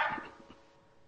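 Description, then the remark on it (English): An excited female puppy, not in her crate, lets out a few quick, high-pitched yips and whimpers, loudest at first and then trailing off into quiet. The sounds are soft, with no talking. “It's like your puppy's excited.”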